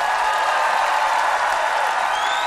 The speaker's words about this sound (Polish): Wielkie, wielkie brawa.